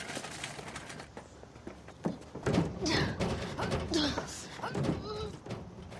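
A door handle is pulled several times, giving a series of sharp rattling clunks and thuds, with some brief vocal sounds mixed in.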